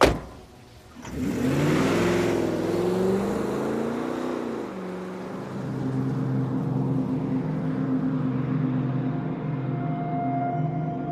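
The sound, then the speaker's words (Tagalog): A car engine roars up in a loud rev with climbing pitch, then settles into a steady, sustained engine drone as the waiting car, with a baby placed inside, speeds away. No voices. “Ipinasok niya sa naghihintay na kotse ang baby at humarurot sila paalis.”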